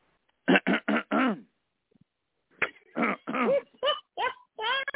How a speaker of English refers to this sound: Now he's clearing his throat.